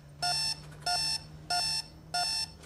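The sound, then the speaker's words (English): A digital alarm clock in a flat beeps four times in the morning in a steady, evenly spaced rhythm, each bright electronic burst clear over a faint low hum. “Disturbed, she looks at her digital alarm clock.”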